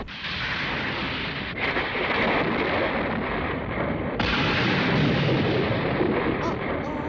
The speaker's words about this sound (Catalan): Tots dos miren el cel, que s'enfosqueix i s'omple de núvols verds. El cel es torna tot negre! Cauen llamps sobre el bosc i la torre sagrada.